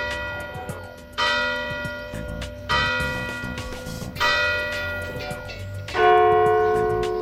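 Church bells peal from a tower, four ringing strikes about every one and a half seconds, each ringing out with a long shimmering decay that overlaps the next, fairly loud with no voices.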